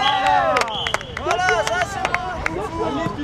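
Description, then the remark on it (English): A lively sports crowd cheers and shouts continuously at a beach volleyball game in a giant sandbox at Paris City Hall by the Seine in Paris, France, with scattered sharp claps and hand smacks punctuating the loud, overlapping voices. “Beach volleyball in a giant sandbox.”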